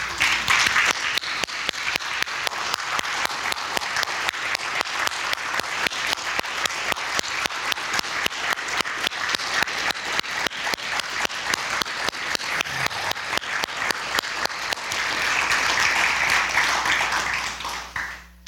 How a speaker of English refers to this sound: Stand and give our Lord this morning a hand clap of praise, because he is worthy.